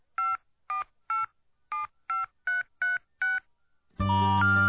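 A rapid series of nine touch-tone beeps dials a singer's cell phone number, each tone short and clear with brief gaps, followed by a loud burst of music or a recorded message starting abruptly.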